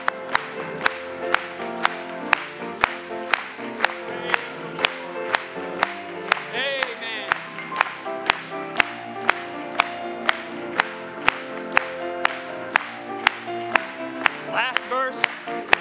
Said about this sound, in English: Let's clap it to him.